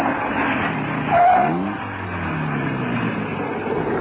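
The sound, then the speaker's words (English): A car engine hums as the vehicle slows, a brief tire squeal near the start and the engine note dropping as it pulls over and comes to a stop. “Anyway, pull over and stop.”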